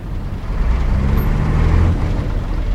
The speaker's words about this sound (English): All day and all night, trucks roll through the port city of Tema. They pick up cargo from thousands of shipping containers stacked high in the dockyards.